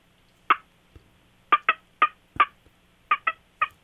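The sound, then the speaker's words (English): A series of short, sharp turkey hen clucks made on a turkey call and played over a speakerphone, seven crisp, simple single notes spaced irregularly, some in quick pairs, clear against a quiet background. “This is just a clock, it's just a simple note.”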